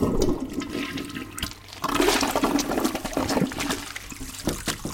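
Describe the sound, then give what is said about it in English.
A toilet flushes with a loud rush of swirling water as a packet of Nabisco cookies is shoved in and flushed, dips briefly, then surges again in a second flush that gurgles and drains toward the end. No voices. “I rolled up my sleeve and shoved the cookies into the toilet, flushing furiously.”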